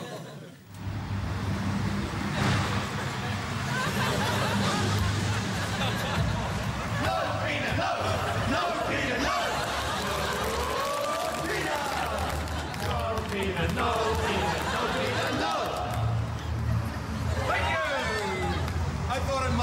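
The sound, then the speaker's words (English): A cheer squad chants at full volume to make Peter Costello give up the idea of leading the Liberal Party. Many voices overlap in a loud, steady group shout with rising and falling pitch, continuing for the whole stretch over a dense background of crowd noise. “Could the cheer squad make Peter Costello give up the idea that he's ever going to lead the Liberal Party?”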